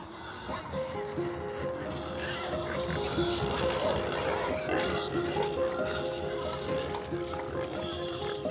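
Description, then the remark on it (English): A busy chorus of pigs grunts, oinks and squeals continuously, the overlapping calls forming a steady, dense racket with no pauses. “Still, in a magical way, all three of us coordinated, each on a different side of the field, and we proceeded to rounding up the pigs, calling out at them, and amazingly, they responded and let us lead them back into their pens.”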